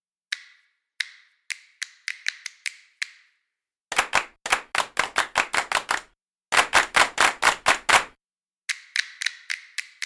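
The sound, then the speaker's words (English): Finger snap and hand clap samples used for producing music tracks: a run of crisp finger snaps with short ringing tails gives way to rapid, loud hand claps in quick rhythmic bursts separated by brief pauses, then a final lighter flurry of claps. No voices. “Let's hear the snaps and claps in context”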